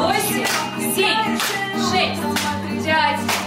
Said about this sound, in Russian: 5, 8, 6, 5, 4, 3, 2, добавляем хлопочки.